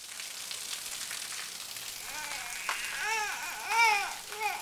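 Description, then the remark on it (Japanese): A steady, even hiss of heavy rain falling again at dusk in the rainy season runs throughout, and partway in a baby's whimpering, wavering cries rise over it, growing louder toward the end. “列車は来ず、夕闇が迫ると再び雨が降り出しました。”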